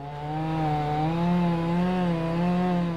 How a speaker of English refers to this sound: Now, someone had to actually wield the chainsaw and cut the tree.